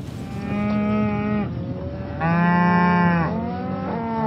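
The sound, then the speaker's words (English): Cattle moo loudly on a cattle farm in Page County, about 90 miles southwest of Washington, D.C., two long drawn-out lows followed by a shorter third call, with a steady rumble of farmyard background and no talking. “He raises cattle about 90 miles southwest of Washington, D.C.”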